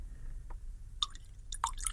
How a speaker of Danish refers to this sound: Og den er god, og den er stærk, og det er den type, som at det gælder jo for de fleste gode whiskies, at et par dråber postevand i, det er altså rigtig godt. Så jeg har også lige en lille kande her med lidt vand.